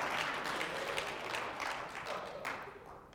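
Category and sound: crowd, audience clapping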